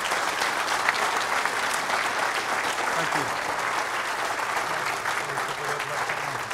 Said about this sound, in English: Thank you very much. Could we have a round of applause, please?